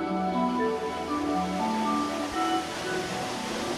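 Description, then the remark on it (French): A steady, loud rush of a waterfall crashing continuously onto tufa rock at a petrifying-fountains garden in La Sône, France, close to the cascade at sunrise; a dense roar with no pauses and faint tonal hints beneath it. “Là, on entend un peu des bruits de fracas. L'eau martyrise un petit peu le tuf, on dirait ici.”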